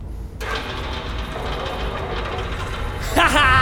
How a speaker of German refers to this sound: Na, und was ist das? Das hört sich aber irgendwie gar nicht nach Helikopter an. Das ist doch... eine Hydraulik! Was? Sie sind in einer Müllpresse!